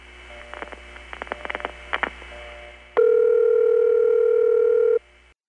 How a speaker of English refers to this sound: When you're calling an actual phone line in an NX1, you hear a string of these pulses. They don't correspond to anything numerical, but in calling a phone line, it usually gives the impression of sounding like 4 strings of pulses.